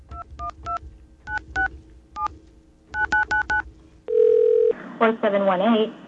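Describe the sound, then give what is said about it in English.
A string of telephone keypad beeps in quick bursts of three, two, one and five, then a brief steady phone tone, followed by a recorded-sounding voice speaking over the line. “We have a dial tone here?”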